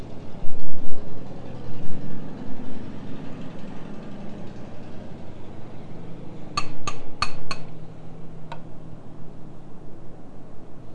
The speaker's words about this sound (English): Car. There's a car outside. Yeah, I hear him backing up. There's motor going do do do do do do do do. There he goes. There goes that car.